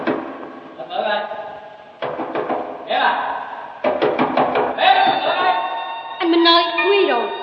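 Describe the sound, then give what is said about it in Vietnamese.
A quick series of knocks on a door rings out in the middle as a man asks to be let in, set among a woman's voice speaking or singing that carries on throughout at a moderate level. “Chị Vú ơi, mở cửa giùm tôi chị Vú.”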